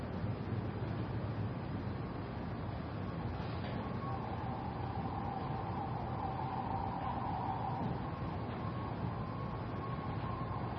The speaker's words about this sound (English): So the breath is a way of collecting the attention, but you can still notice and include the sounds, the sirens, sounds in the room.